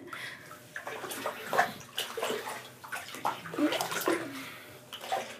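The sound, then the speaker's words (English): Hot water pours steadily into a bathtub, a continuous rush with splashy, bubbling surges and small sloshes throughout, no voices present. “Let me just, put the hot water a little bit more.”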